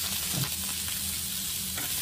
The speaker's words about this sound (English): Now we got roast beef. Roast beef seared in the pan.